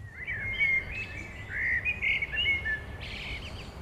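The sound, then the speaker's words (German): A person imitates bird chirping with a quick run of high, whistled tweets and trills that keep going for a few seconds over a low background hum. “Das war auf Vogel und das war auf Mensch.”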